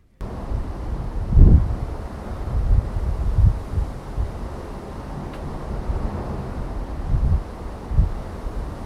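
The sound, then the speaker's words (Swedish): Strong wind roars across an open ship balcony, a steady low rumble broken by heavy buffeting gusts that thump into the microphone. No one speaks. “Och ni kan få höra lite hur det låter här utanför.”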